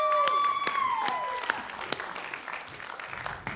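An audience breaks into a big round of steady, dense applause after singing and clapping along. The clapping stays fairly even throughout, while a sustained musical tone glides downward and fades out over the first second and a half.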